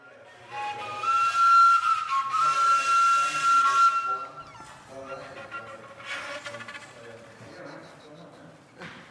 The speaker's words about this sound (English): A Spanish guitarist and multi-instrumentalist talks about her pájaro volador, one of her many homemade instruments built from recycled objects.